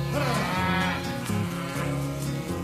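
A deep, drawn-out ox moo sounds loud, its low bellowing tone swelling and shifting for a couple of seconds with no talking.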